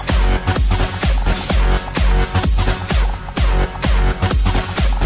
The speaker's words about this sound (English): Make some noise with stadium horns.